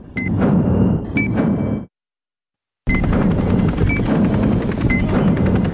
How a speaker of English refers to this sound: An FBI helicopter touches down.